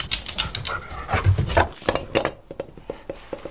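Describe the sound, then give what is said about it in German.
A dog pants in quick, breathy bursts that settle into a steady rhythmic huffing, with a few light metallic clinks mixed in and no one speaking. “Guter Hund”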